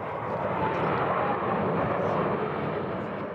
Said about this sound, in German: 3-mal ziehen die Jets in perfekter Formation über uns hinweg.